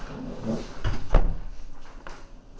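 A door swings and shuts with one solid thud, preceded by a brief low rumble of movement and followed by a short fading rattle. No one speaks.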